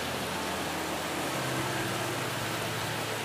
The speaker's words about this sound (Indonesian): Cuma karena saya dengar suara hujan, saya keluar kamar, ke balkon, terus rekam apa aja yang ada di otak saya.